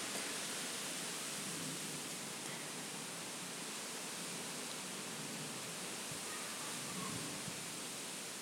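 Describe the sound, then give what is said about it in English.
Wind rushing through tree leaves outdoors on a cold autumn evening, with some big gusts, makes a steady, even hiss that holds at the same level for the whole stretch, with no voices and no distinct individual sounds. “Just standing outside and it's the wind in the trees.”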